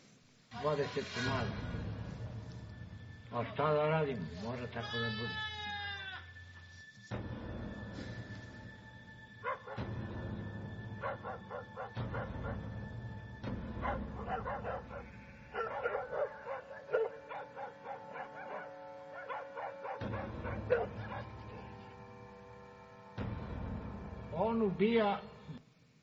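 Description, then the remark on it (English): Frantic, repeated bleating of sheep mixed with snarling, yelping cries of a wolf attacking them, loud, in dense overlapping bursts with brief pauses and no talking. “I've got a short video here, just 30 seconds or so, that shows a little bit of a wolf attacking some sheep.”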